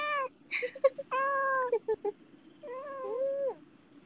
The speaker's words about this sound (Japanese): あ、あん、ニャー来てんの、ニャー来たの、あん、かわいいね。